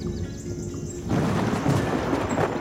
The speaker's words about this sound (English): However, now let's just wait for thunder and lightning. The storm is now close.